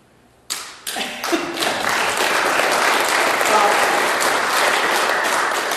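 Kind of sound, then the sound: crowd, audience applauding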